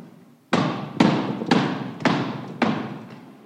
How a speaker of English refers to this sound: Knock. To knock at the door. To knock with the knuckles like a heavy blow.